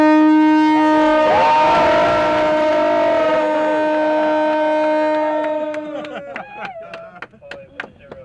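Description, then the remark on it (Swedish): A loud, sustained horn blast signals the start of a sailing race after a countdown, lasting about six seconds, steady, then fades out into a scatter of sharp knocks and clatter. “Tutt! Nu!”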